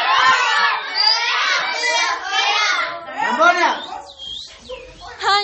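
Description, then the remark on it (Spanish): Classmates at school jeer, whistle and laugh at a girl as she enters their classroom, a loud, overlapping din of high-pitched voices, with shrill whoops and mocking cries rising above the steady chatter. “todos los demás murmuraban, la señalaban y se reían de ella.”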